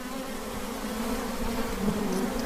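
A dense, steady hum of many honeybees buzzing around an open hive being checked for its queen, a continuous droning swarm with no voices.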